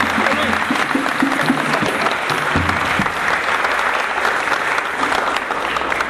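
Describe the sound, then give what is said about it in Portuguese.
An audience breaks into sustained applause, a dense, steady clatter of many hands clapping at even loudness for several seconds, with faint voices and cheers mixed underneath. “uma salva de palmas aqui, gente.”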